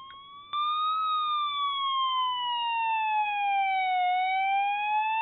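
A loud emergency vehicle siren wails continuously, its tone slowly rising and falling in a long sweep, with a faint background hiss and no talking.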